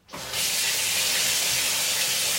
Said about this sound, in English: Okay, jumping in the shower.